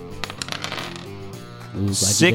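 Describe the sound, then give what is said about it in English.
Four eight-sided dice rattle across a tabletop in a quick burst of small clicks, followed by a person talking. “Well, let's see how well he rolls, and then I'll let you know how well he connects.”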